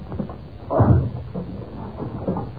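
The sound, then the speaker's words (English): A locked door is forced open with a heavy, booming crash near the start, followed by lower rumbling and scraping as it gives way. Fairly loud, with no voices. “The door's locked. Oh, we must break it open then.”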